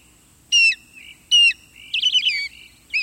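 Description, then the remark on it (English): An osprey, a large bird of prey, gives a series of sharp, high chirping whistles, several short bursts in quick succession with a brief rising flurry near the end, clear over a quiet background. “Large bird of prey is probably not what first comes to mind when you hear this chirping sound, but that's what we're listening to. An osprey.”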